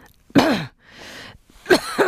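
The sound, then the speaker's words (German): Two rough, throaty coughs, fairly loud, separated by a breathy inhale; the second cough breaks into a couple of quick hacking bursts. “Dann hörten sie wieder das Husten.”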